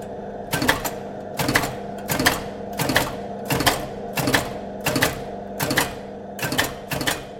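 Keys on a Typex cipher machine, set up to work like an Enigma, being struck in a steady, even rhythm as message traffic is typed through to decrypt it, about eleven sharp mechanical clacks with a low whirring hum between them, with no voices.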